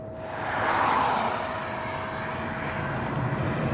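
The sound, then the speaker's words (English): An electric Nissan Leaf test car drives fast along a long, sweeping rural road in Britain, a steady roar of tyre and wind noise with a thin, constant motor whine running underneath, unbroken, with no one talking. “The car is an electric Nissan Leaf.”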